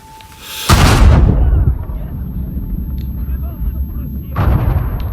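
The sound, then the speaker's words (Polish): A loud, booming explosion bursts in suddenly and rumbles on, followed a few seconds later by a second blast, both heavy with a lingering low roar between them: mummies exploding in a video game. “Cholera, kolejne mumie. Nie wybuchajcie, dobra?”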